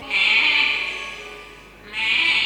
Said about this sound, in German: Eines Morgens, als die Sonne schon hoch am Himmel stand, vernahm Robinson noch im Halbschlaf ein etwas ungewöhnliches Meckern und begann zu horchen.